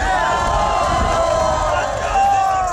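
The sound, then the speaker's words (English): A large outdoor crowd at a field goal kicking contest in cold, driving snow in front of Goose Island Brewery on the 1800 block of West Fulton roars and cheers in a steady, dense wash of voices, with scattered shouts rising above the din for the whole few seconds. “I would not have guessed this big a crowd.”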